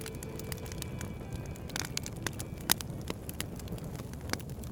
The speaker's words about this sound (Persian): حالا باید شعله ای افروخت، پاره ای از آتش، تا خورشیدی باشد که سوگواران در پناه پرتو آن شب هنگام نیز اقامه عزا کنند.